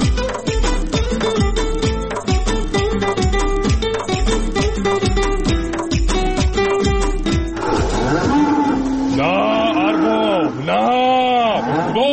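A steady thumping rhythmic beat plays for several seconds, then gives way to a run of loud, wavering sheep bleats, one after another.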